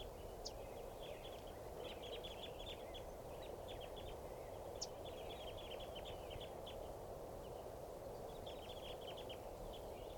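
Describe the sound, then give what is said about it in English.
A flock of crossbills perched low in a tree in the middle of a corral at Barford Park gives repeated short, sharp chip pre-flight calls in loose clusters, fairly faint, over a steady background hiss of wind or moving air. “And this is the sample of the flock's pre-flight calls.”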